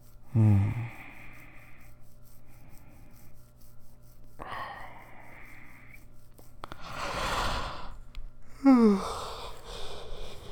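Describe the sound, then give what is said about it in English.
A few drawn-out yawns, each opening with a squeaky, whining tone that trails into a breathy exhale, with a long airy breath in between. No talking. “You can't yawn at me, baby. It makes me yawn.”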